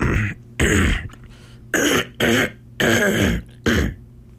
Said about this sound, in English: nice cough.